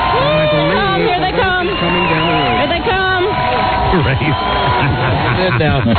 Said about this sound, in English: High-heeled men. And the cheerleaders are out there cheering the crowd on.